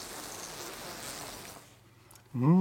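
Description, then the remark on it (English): Honeybees buzz around a hive in a soft, steady hum that thins out briefly, then near the end one bee drones loudly right at the microphone, trying to sting it. “The buzz full buzz of atmosphere. Of the bees, yeah.”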